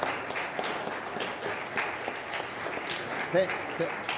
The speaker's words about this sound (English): So before I forget, maybe all the fathers could just stand up and we'll give them a round of applause. Okay, and if you can't stand, we'll clap for you anyway. Anyone who's a father, all right.